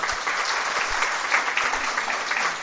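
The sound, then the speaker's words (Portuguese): An audience at an honours ceremony of the Câmara de Vereadores (city council) claps steadily, a dense, even wash of many hands with no pauses, holding at a fairly loud level throughout and no voices standing out above it. “Eu gostaria também de uma salva de palmas.”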